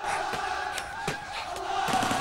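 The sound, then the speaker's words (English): A large crowd of protesters shouts and yells together in a loud, continuous roar, punctuated by a few sharp, brief bangs; no one speaks clearly. “They come up alongside the protesters.”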